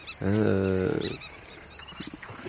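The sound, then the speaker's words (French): A loud, low, droning croak is followed by softer pulsing calls from frogs at nightfall, a small frog chorus that is growing, all over a steady high-pitched chirring that runs throughout, like insects or a chorus building at dusk. “D'ailleurs, avec la tombée de la nuit, là, il y a un petit concert de grenouilles là, qui est en train d'augmenter.”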